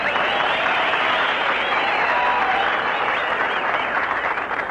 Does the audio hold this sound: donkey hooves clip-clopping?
no